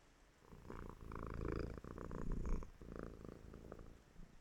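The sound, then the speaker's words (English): A cat purrs steadily while having its hair brushed, a low rumbling vibration pulsing in a continuous rhythm for several seconds, with no talking over it. “Human, I do not purr.”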